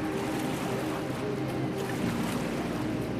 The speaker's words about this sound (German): Schnell sind Wind und Wetter, Strömung und Wellengang das, was uns und das Kajak bestimmen. Jeder Paddelschlag ist ein Kräftemessen mit der Natur. Es geht hin und her, nach oben und nach unten.